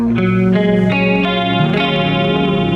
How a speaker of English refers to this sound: So for example, if I'm playing one of our ballads with a clean sound, I'll turn my distortion pedal off, and I'll turn on a compressor pedal and a chorus pedal